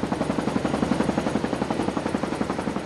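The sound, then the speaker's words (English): Two helicopters circling twice before landing at Balikot: rotors thud in a steady, rapid chop over a loud engine roar, continuous, with no voices. “The helicopters circle twice before landing.”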